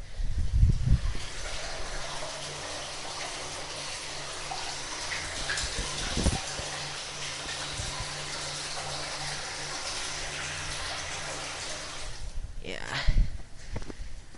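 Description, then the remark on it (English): A lot of water rushes steadily into a storm drain, recorded with the microphone put inside the drain: a dense, continuous roar, broken only by a few low thumps and knocks near the start and end. “this is the storm drain, and I'm just gonna put the microphone inside here, because there's a lot of water going into it, and, let's see if we can pick up the sound in here, because it is very cool.”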